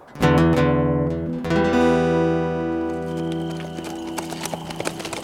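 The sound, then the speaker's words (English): Horses' hooves clip-clop in a steady, uneven rhythm, clear, as a volunteer posse of six men rides weary horses back into Hopper's Crossing an hour past dark; a long sustained tonal sound rings over the first half before the hoofbeats stand out more sharply. “An hour past dark, Biggin rode back into Hopper's Crossing with a volunteer posse of six men. Horses and riders were so weary that they seemed barely able to hold their heads up.”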